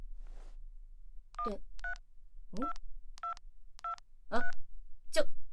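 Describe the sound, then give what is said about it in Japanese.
A string of about six beeping telephone keypad tones, evenly spaced as a phone number is punched in, clear, with a few short muffled vocal sounds mixed between them. “あんた、一体どこに電話かけようとしてるんだい？”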